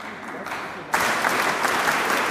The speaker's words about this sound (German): Der Schlagzeuger steht plötzlich vorne auf der Bühne und teilt das Publikum in drei Gruppen auf. Er macht unterschiedliche Body Percussion vor, das Publikum klatscht und trommelt es nach.